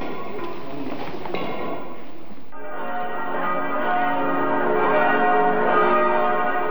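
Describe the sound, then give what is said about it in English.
Bells of the Church of the Holy Sepulchre in Jerusalem ring continuously, their overlapping peals blending into a dense, shimmering wash of tones that grows slightly fuller partway through, with no voices present. “We're listening to the sounds of Franciscans moving through the streets of Jerusalem, bells of the Church of the Holy Sepulchre, and an Orthodox Christian choir.”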